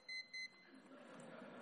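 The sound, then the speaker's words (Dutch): Two quick electronic clock beeps sound close together at the start, sharp and tonal, during a church sermon, followed by a low murmur and background noise. “Oh, de klok.”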